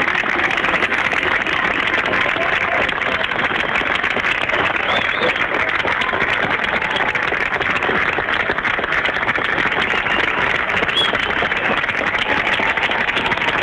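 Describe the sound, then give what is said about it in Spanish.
Long, steady applause from listeners of Radio Bío Bío in Concepción, Chile, a dense unbroken patter of clapping lasting the whole stretch at an even loudness, with faint car horn honks from O'Higgins street now and then buried in the noise. “Un largo y prolongado aplauso de parte de los auditores de la radio. Se escuchan bocinazos ahí en la calle O'Higgins.”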